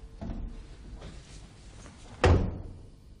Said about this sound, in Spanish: Cierra la puerta cuando salgas.